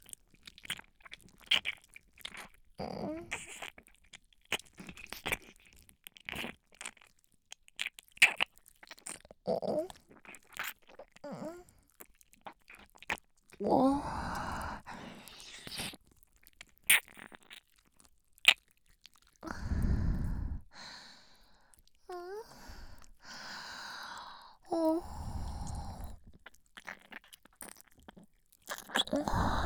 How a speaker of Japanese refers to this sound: ここをねっとり下を押しつけて。食べちゃうみたいに舐め回して。